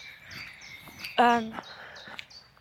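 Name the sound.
birds singing outdoors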